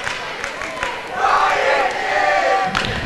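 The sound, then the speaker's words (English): A gymnasium crowd at a basketball game roars and cheers after a player scores a basket with a chance at a three-point play. The noise swells sharply after a second and holds loud and sustained, with scattered shouts and a few thuds mixed in. “Crowd loves it.”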